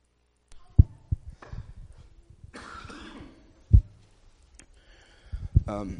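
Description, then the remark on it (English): A speaker coughs into a microphone: several sharp coughs scattered across a few seconds, with throat-clearing sounds and rustling in between, loud, with no talking. “And I'm going to switch to a handheld mic so I don't have to cough into my mic every time.”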